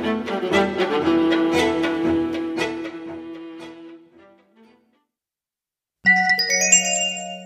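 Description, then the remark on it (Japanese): A bright electronic chime, a tone index marking the start of a main item on the cassette tape edition of the Nerima ward assembly newsletter, plays a short run of bell-like notes that ring out and fade, followed by a brief silence and then a steady, clear tone; no one speaks. “カセットテープ版には主要な項目の頭にトーンインデックスが入っていますのでご利用ください。”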